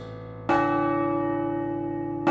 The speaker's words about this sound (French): depuis 1000 ans, les cloches de Brantôme, dominant la Drôme, en duo carillonne pour les femmes et les hommes.